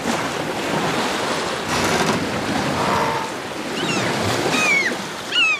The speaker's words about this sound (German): Natürlich hat man da dieses Windgeräusch ganz, ganz stark und es ist schwer, die anderen zu verstehen, weil der Wind eben so laut ist. Das ist manchmal so wie ein Pfeifen, was man oft eben sagt,